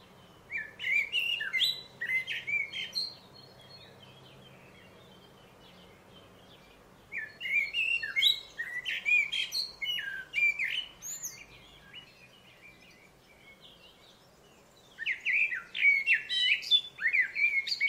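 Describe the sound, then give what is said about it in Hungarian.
A Eurasian blackbird sings alone in three bursts of fluting, warbling phrases separated by short pauses, clear over a faint background hush. “Viszont nagyon sok fekete rigót azt egész évben lehet látni, nem meglepő, hogy decemberben, januárban is néha a lábunk között ugrándoznak.”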